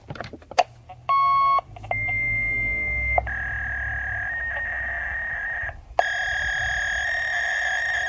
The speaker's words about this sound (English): That was the sound of a fax machine transmitting.